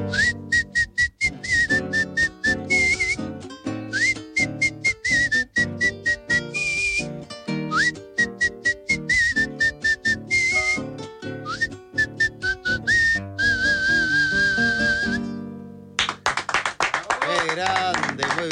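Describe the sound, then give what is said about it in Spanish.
A man whistles a lilting melody over rhythmic music with sharp claps or taps, the whistle clear and steady for about fifteen seconds before the accompaniment shifts to a denser sound. “Silbidito y todo, che, muy bien.”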